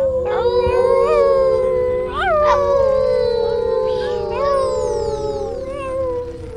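Long, eerie wolf-like howls drawn out continuously, rising and falling in pitch and overlapping one another, loud, with no talking, like a spooky werewolf howl.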